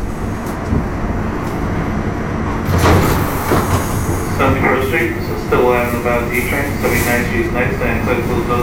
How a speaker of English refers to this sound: So the D train comes all the way from the top in the Bronx, right through Manhattan, mostly underground, of course, in Manhattan, and then surfaces and crosses the Brooklyn Bridge and goes into Brooklyn